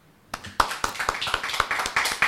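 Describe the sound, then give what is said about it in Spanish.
Applause dedicated to Eva Duarte de Perón breaks out after a brief quiet moment, a steady patter of many hands clapping for a couple of seconds, with no voices. “Este aplauso es para ella.”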